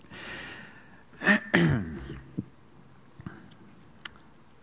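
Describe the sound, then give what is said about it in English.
Two quick, harsh coughs with throat clearing from a speaker during a talk on the Bible, fairly loud, followed by a few faint clicks and small noises. “I'm told when your throat is blocked, you ought not cough. But I can't.”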